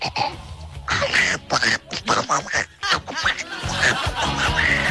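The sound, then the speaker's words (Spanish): A person does a raspy, quacking Donald Duck voice impression, sputtering in quick garbled bursts with snickering laughter mixed in, fairly loud for about five seconds. “Ese era el Pato Donald.”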